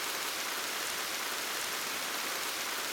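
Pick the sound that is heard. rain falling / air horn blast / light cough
rain falling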